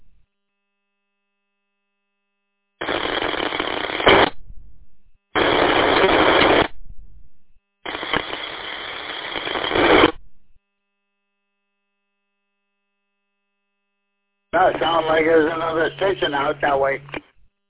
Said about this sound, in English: Sounds like there's another station out that way. I can never tell if it's people trying to get in or if it's interference, but they sound the same.